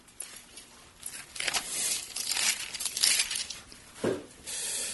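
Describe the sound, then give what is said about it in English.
Pages of a Bible being flipped as someone turns to Matthew 5, a run of soft papery rustles and swishes that come in quick uneven bursts, with a sharper flick near the end and no voices. “I'm losing track of where things are in my Bible here.”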